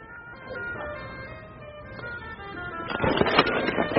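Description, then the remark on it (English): A printing press, pushed in twice to press down and print a page, runs with a steady, squeaky mechanical whine, then grows louder with clattering, rhythmic knocks near the end, with no one speaking. “Now, hopefully, we've printed a nice copy.”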